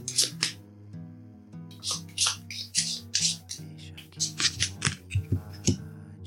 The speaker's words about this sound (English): Okay, so let's shuffle these cards and see what we need to affirm.